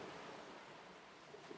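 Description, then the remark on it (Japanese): Waves wash steadily onto a sandy beach facing Ise Bay by Nomazaki Lighthouse at night before dawn, a continuous hiss of surf with no break or distinct crash, moderately loud, with no voices present. “寄せては返す波の合間にかすかなバイオリンの音色を聞いた。”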